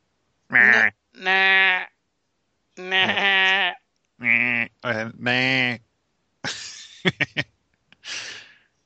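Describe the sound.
A human voice imitates a goat, letting out several wavering, nasal bleats in quick succession, fairly loud, followed by a few breathy gasps and sharp clicks at the end.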